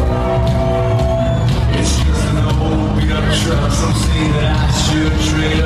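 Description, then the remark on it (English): Loud live music with a dense, sustained band sound, the band's opening song at a concert, recorded for an Instagram story, while a crowd cheers and shouts throughout, giving a busy concert atmosphere. “This is his first song whenever we go on. This is from my Insta story.”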